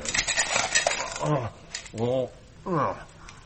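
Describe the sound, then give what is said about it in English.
Small hard pebbles rattle and clatter in a dish for about a second, a busy scraping jingle, followed by three short voiced vocal sounds with quieter rattling between them. “Now pass me that dish of pebbles.”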